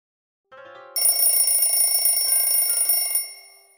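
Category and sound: signal or alarm, alarm clock ringing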